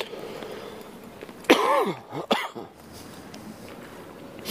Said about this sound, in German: Das Schlimme an dem Husten ist ja, dass ich beim Husten Kopfschmerzen kriege.